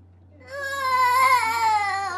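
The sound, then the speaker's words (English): A child, asked what a giraffe says, vocally imitates a giraffe's call with a single high, wavering, cry-like wail held for nearly two seconds, over a low steady hum. “That's what a giraffe says?”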